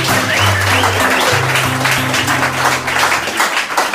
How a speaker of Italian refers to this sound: Applauso per cortesia.